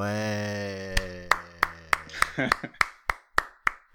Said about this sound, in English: That's a lot of people clapping, just me. But other people, I'm sure they're clapping inside their heads at this point.